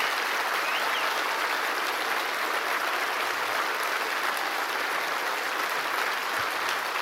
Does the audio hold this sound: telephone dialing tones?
no